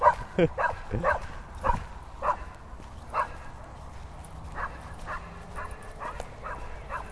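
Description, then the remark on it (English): A dog being walked by a passing man barks repeatedly in short, sharp yaps, a quick cluster at first and then more spaced-out barks that gradually soften, with faint background noise throughout. “He's barking.”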